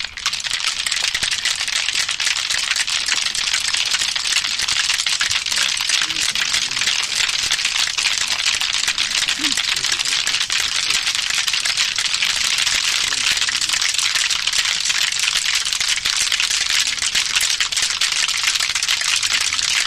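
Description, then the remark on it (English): A crowd of people clicking their fingers in unison, the many sharp clicks blending into a dense, steady crackling patter that holds at an even loudness for the whole stretch, with no talking. “Now let us start clicking.”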